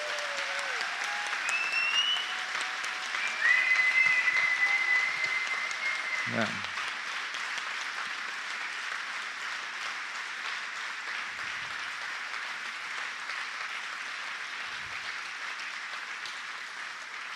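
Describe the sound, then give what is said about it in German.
Sustained audience applause for two people fills the scene, a dense steady wash of clapping that swells slightly early on and continues evenly, with a brief voice and a few whistle-like tones cutting through. “Ein Applaus an euch beide.”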